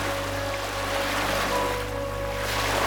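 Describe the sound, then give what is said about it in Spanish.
A steady, continuous wash of ocean surf fills the scene, with a low, even hum underneath and no distinct breaking crashes, just a soft, constant roar at moderate volume. “Visualiza un vasto océano, donde las olas te arrullan con calma y el sol brilla sobre la superficie del agua.”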